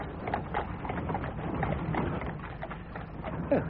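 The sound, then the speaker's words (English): Hooves of horses, one of which looks lame, clip-clop in a steady, uneven rhythm over a continuous muffled rumble, moderately loud and dull in tone, with no voices. “One of the horses looks lame.”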